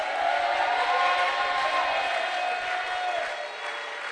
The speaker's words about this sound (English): If somebody has a witness in their hand, why don't you clap and shout?